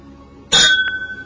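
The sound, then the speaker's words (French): Champagne glasses clink together once in a toast, bright, leaving a clear ringing tone that hangs in the air, with a faint second tap just after. No one speaks. “Du champagne? Ah, merci. Je me sers aussi. Trinquons.”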